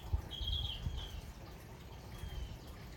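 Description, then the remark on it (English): A faint bird gives a thin, high whistled chirp, then a softer second call a moment later, over a low background rumble with no one talking. “So good to hear a bird.”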